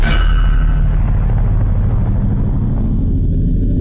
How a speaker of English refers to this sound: Aimed right at the middle of that infuriating grate, the extra-strength dark explosion finally did the trick. It overwhelmed the anti-magic enchantment on the steel and the surrounding stone, blowing them apart.